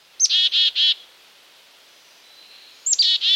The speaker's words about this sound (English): It's a black-capped chickadee. It's the call for which the chickadee got its name.